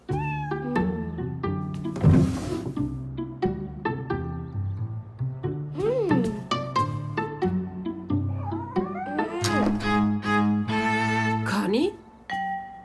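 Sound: cat meowing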